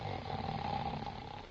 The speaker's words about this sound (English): never mind snoring.